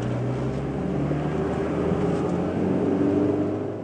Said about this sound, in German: Patrick bremst den Wagen langsam runter, als sie die Stadtgrenze erreichen.